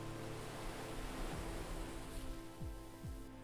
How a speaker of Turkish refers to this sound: Her bir dalga usulca adanın kıyısına ulaşıyor, sahildeki çakıl taşlarını yalayarak geri çekiliyordu.